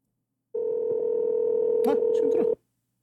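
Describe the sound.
A phone's ringback tone on an outgoing long-distance call from an American phone: a steady, mid-pitched electronic tone holding for about two seconds, then cutting off, with brief voices overlapping near its end.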